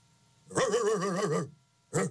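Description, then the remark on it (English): Alabama A&M head coach Connell Maynard imitates a dog in front of the media before a game, loud: one long, wavering bark stretched almost to a howl, then a short, sharp second bark after a brief pause. “He barks before every game when he sits in front of the media as though they're just going to go out.”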